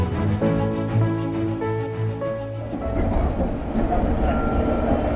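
A London Underground Piccadilly line train approaching Southgate station runs loudly. A droning electric motor whine gives way after a few seconds to a steady, rattling roar as the carriage rumbles along the tracks.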